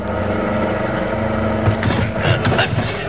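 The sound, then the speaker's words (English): A car engine drones loudly and steadily, then heavy thumps and rattling jolts break in over the second half as the car bounces down a 60-foot embankment onto a rough field. “There's only one way to head the car off. Go down the embankment.”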